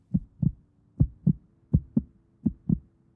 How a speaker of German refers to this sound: Der Patient befindet sich in kritischem Zustand. Herztöne schwach.